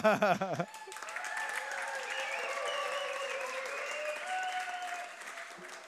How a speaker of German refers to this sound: Vielen Dank. Können wir einen großen Applaus geben? Okay, ist das ein großer Applaus bei euch? Nee, ne?